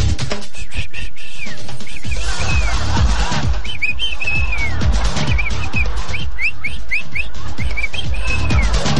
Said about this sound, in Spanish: Como si se tratase de un ave. Es el canto de la ranita que inunda cada rincón por donde merodean ciervos volantes